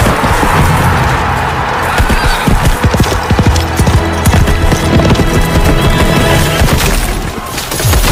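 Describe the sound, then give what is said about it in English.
A horse named Peanut is urged on and gallops, its hooves pounding in a rapid, steady rhythm, with loud whinnies rising over the hoofbeats amid a dense, noisy background. “Giddy up, Peanut!”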